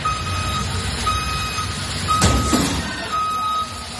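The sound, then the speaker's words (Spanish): A tourist bus in Chueca, Madrid, Spain, reversing, sounds a steady, high reverse-warning beep over low engine rumble, then a sudden heavy crash with a second jolt as it strikes street furniture, after which the beeping carries on. “Es el pitido que emite el autobús al hacer la maniobra de marcha atrás y el golpe final cuando choca contra el mobiliario.”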